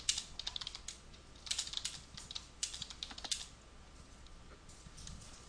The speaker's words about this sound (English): I'm having a hard time typing this, obviously.